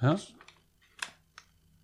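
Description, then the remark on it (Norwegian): A short burst of voice at the start, then quiet plastic handling with three sharp clicks spaced unevenly as a mounting clip is fitted onto an external monitor. “Så den festes da veldig enkelt sånn.”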